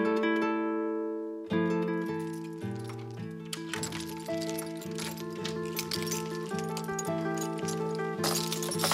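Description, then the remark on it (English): A bunch of library keys at Farmley jingles and clinks in a bright, metallic shimmer that starts a few seconds in and continues steadily, layered over sustained musical chords. “It's a fine bunch of keys.”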